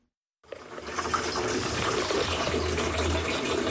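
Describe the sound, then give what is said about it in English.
After a moment of silence, water suddenly starts gushing from a tap at a tap water kiosk in Nairobi, Kenya, and keeps running in a steady, full hiss, with a low hum underneath and no voices. “runs a tap water kiosk.”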